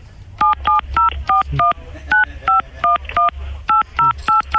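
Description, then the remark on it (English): A rapid series of about fourteen phone keypad DTMF tones, each a short two-pitch beep, evenly and closely spaced, over a low background hum, as a caller punches an ID number into the phone during a call to a TV provider's customer service line. “Please don't punch it in on the phone.”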